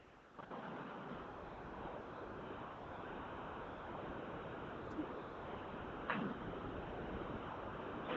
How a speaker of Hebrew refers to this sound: זה נשמע רוח.